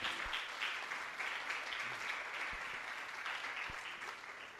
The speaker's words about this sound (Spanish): Dele una ofrenda de palmas al Señor.